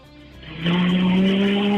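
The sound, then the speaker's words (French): A voice imitates the engine of a small propeller plane revving for a pretend takeoff on flight 777 to Futuroscope: after a quiet start it swells abruptly into a loud, steady, buzzing roar that holds to the end. “Maintenant, le moteur.”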